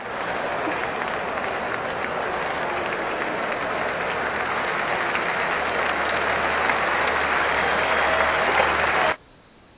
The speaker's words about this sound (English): She gets a round of applause.